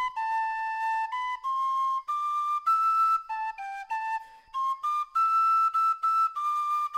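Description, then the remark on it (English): A lilting traditional melody played on a penny whistle, bright and breathy, moving stepwise through sustained and quick notes in a steady rhythm, clear with no voices. “Our theme music is Nova Scotia Farewell, a traditional tune performed on the penny whistle by the author of these stories.”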